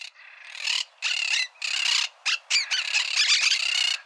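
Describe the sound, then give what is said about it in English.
Several crows caw harshly and repeatedly while mobbing a raptor, their raucous calls overlapping in a loud, agitated chorus of bursts that grows more continuous toward the end, with no voices present. “If you hear a ruckus and spot several crows circling and swooping toward a tall conifer, it's a good bet that there's a raptor tucked in the tree, a hawk perhaps, or an owl.”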